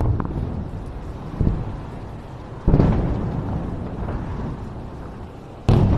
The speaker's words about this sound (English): It's difficult to tell from those explosions whether they were mid-air interceptions or whether they were of impacts on the ground from the incoming ballistic missiles launched by Iran. But we do know that there were impacts on the ground.